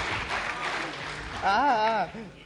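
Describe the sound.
An audience claps in a dense, steady patter for a couple of seconds, then a loud voice rings out over the tail of the applause with a wavering, sung-out tone.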